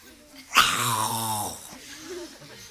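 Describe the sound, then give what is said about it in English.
A person imitates the guard dogs of wealthy people's homes barking, with one loud, drawn-out, bark-like vocal burst, which trails off into quieter murmuring. “So they started going in, and it wasn't so easy because wealthy people, you know, they have their fences, they have security, they have dogs. Oh, woof, woof, woof, woof, woof, woof, woof, woof.”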